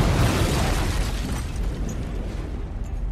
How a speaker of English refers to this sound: Across the field from him, the LLRV dives into the ground and erupts in a giant fireball.